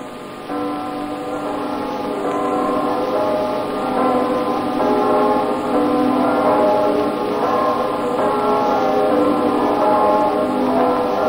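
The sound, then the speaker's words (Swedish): All the church bells of Copenhagen ring out across the city on the morning of liberation in a continuous, overlapping peal, their layered tones sustained and fairly loud throughout, with a steady hiss underneath and no voices. “Som vi stävar in mot tullhuset, där den tyske kommandanten ännu residerar, börjar alla Köpenhamns klockor ringa in frihetens morgon.”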